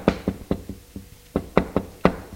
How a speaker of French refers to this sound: Elle porte une chemise de nuit blanche et frappe doucement à la porte.